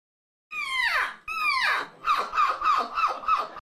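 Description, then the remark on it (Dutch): A person imitates a seagull: two long, falling screeches, then a quick run of five shorter yelping calls, loud with no other talking. “Zal ik jou vertellen dat die eerste inderdaad ook een mens was?”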